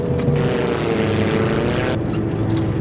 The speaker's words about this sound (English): The plane is shaken by turbulence. Looks like we found that storm.